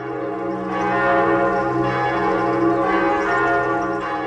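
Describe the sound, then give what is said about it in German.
Church bells in a town ring out steadily and loudly, calling people to a church service, their overlapping tones blending into a continuous, resonant peal with a sustained hum beneath. No voices are heard. “Immer haben die Glocken den passenden Ton parat.”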